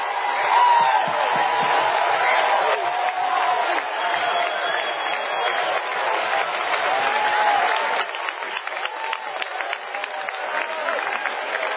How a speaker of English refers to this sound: It's time to get out of my seat. It's time to clap. It's time to shout. It's time to run.